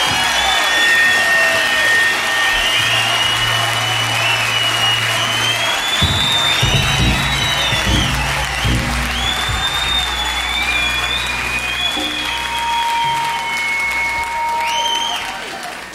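A large concert crowd applauds and cheers continuously, with dense clapping, scattered whoops and high whistles cutting through the roar, loud throughout.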